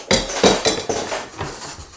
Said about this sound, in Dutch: Roe doet hem na. Het bim bam boink gaat goed, maar hij kijkt niet uit. Hij stuitert zo de kast in. Alle spullen vallen over hem heen.